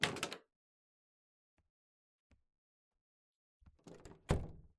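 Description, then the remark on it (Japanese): A door is handled and swung open as someone enters a room: a brief rattle, a couple of soft clicks from the latch, then a cluster of knocks and a solid thunk as it moves, with no voices. “ノックはしないで入ってきてください。”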